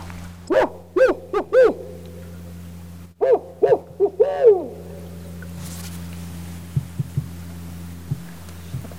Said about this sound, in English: So basically, it's the old way of describing a barred owl call is who cooks for you, who cooks for y'all. And so it's basically 8 syllables, and it sounds a little bit like this.